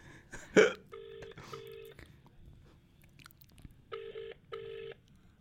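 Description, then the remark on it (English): A phone ringing tone sounds through a loudspeaker as a call is placed to Barry Fry, in two pairs of short electronic buzzing bursts, the second pair after a pause, with brief mouth noises and faint voices at the start. “There's a lot of you just ringing.”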